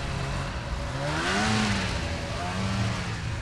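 A snowmobile engine on a frozen lake during the Winter Games drones steadily over a broad rushing rumble, its whining pitch swelling upward and then easing back down, loud and continuous with no voices.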